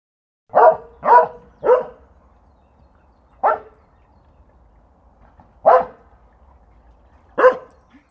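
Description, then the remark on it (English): A dog barks three times in quick succession, then lets out three more single barks spaced a second or two apart, loud against a quiet background. “There's a dog.”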